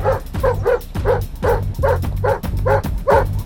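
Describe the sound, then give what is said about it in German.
A Rottweiler barks loudly, about ten deep, gruff barks in a rapid, steady volley with no pauses and no voices, as the wild dog charges after someone. “Und als wenn das noch nicht genug wäre, stürmte mir auch noch ein wild gewordener Rottweiler nach.”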